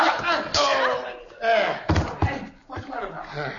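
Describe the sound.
Heavy thuds of blows knocking a man unconscious, two dull impacts in quick succession amid overlapping agitated voices in a scuffle; it takes three people to knock him out.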